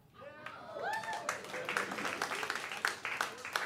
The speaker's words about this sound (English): I see why the applause was tepid.